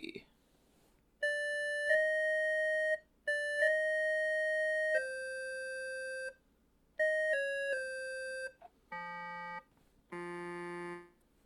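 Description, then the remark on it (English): A sequence of clean electronic tones from a Casio keyboard: long two-note chime-like pairs stepping down in pitch, then quicker descending notes, ending with a low buzzy tone and a harsher, brighter one. “So, yeah, this Casio's got a few tones.”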